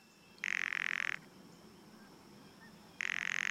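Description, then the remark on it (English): Two dry, buzzy bird rattles, each lasting under a second, separated by a brief quiet gap, clear against faint background hiss. “Rattles.”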